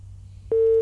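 A low hum gives way halfway through to a loud, steady telephone busy tone after a caller's call to a radio phone-in drops; the tone sounds abruptly and holds to the end, with no voices present.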